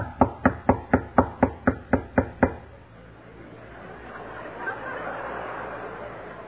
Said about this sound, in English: And suppose I knocked on the door in their room.